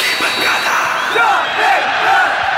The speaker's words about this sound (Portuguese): Coloca a vinheta, vinheta. Roda.